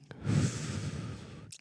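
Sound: deep exhale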